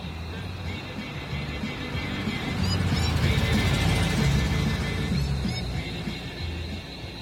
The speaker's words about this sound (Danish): Sangen, du hørte komme ud af bilen, var et stort dansk tophit her i sommeren 1975.